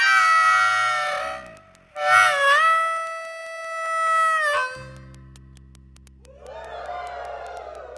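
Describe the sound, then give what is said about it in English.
An audience, taking part on a performer's cue, imitates a train whistle with two long, loud, wavering hoots, the second held steady before breaking off. A low hum and scattered murmuring follow. “You make a sound like a train whistle when I do that.”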